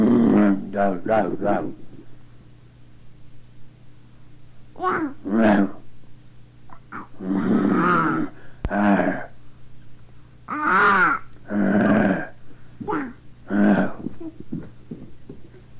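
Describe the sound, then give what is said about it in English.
A person makes a short howling animal-call imitation with a few rising and falling vocal bursts, separated by pauses among other brief voice sounds. “Little howl.”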